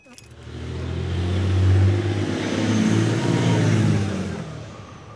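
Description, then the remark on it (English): A car engine hums and rumbles as the vehicle drives downtown and speeds up, its low droning pitch climbing and swelling in loudness over about five seconds, with no voices. “So curious that I'm going to take a pause here, drive downtown, and ask people on the streets what they'd do.”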